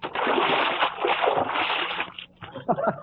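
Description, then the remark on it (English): A bucket of water rigged over a door tips as the door is opened and crashes down in a loud splash lasting about two seconds, then breaks into a few scattered splatters and sloshes as it settles. “I rigged up a bucket of water over the door, and when the principal opens the door, it'll tip the bucket.”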